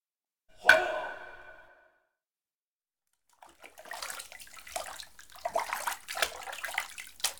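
A single bright clink of a dish rings out and fades, then after a short pause tap water runs steadily with uneven splashing as dishes are washed in a sink after dinner.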